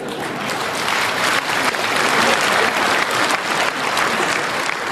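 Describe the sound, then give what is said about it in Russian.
An audience applauds steadily, a dense wash of many hands clapping at a fairly loud, even level that swells slightly midway and carries on for the full five seconds without talk. “Вот такие аплодисменты дорогого стоят.”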